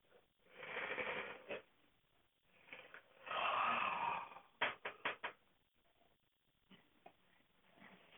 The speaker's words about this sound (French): Je vais tout d'abord respirer profondément, autant de fois que je le jugerai nécessaire, et même bâiller si j'en éprouve le besoin.